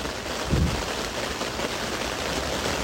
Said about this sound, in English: Sure you can hear that. I'm not even sure you'll be able to hear me over it, but tents are blowing in the wind, the rain is streaming down, there's thunder strikes everywhere, thunder claps everywhere as well.